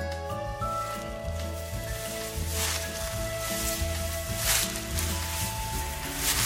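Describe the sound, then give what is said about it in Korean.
Waves wash softly onto the sandy shore of a secluded beach less than 200 m long, with fine silvery sand and clear water, in a couple of broad, hissing swells, partly masked by steady background music that plays throughout. “파도소리가 살짝 지겨워질 쯤 대금굴이 있는 대이리 군립공원으로 발길을 돌린다.”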